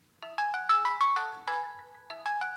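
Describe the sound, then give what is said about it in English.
A melodic phone ringtone of an incoming call plays alone, a bright sequence of clear electronic tones in quick rising and falling notes, repeating its short tune twice with a brief pause between. “She's about to do this competition to get into the Olympics, and she gets this phone call.”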